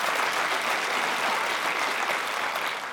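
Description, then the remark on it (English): A crowd claps steadily, a dense, even wash of many hands applauding at a constant loud level with no pauses or voices on top. “But I'm telling you, amen, we can clap for that.”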